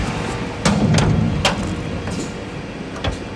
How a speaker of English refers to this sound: Let's just go through your door here into your studio. Trap door in the roller door.